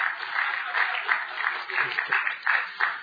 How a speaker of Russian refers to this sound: Давайте аплодисменты. Ассистенты.